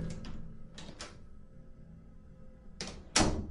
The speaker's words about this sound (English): As usual, I was on my phone while using the bathroom, and the bathroom door opens.